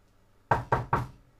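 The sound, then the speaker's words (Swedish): Three firm knocks on a wooden door in quick, even succession, clear, with a hollow thud to each, followed by quiet. “Jag går och knackar på.”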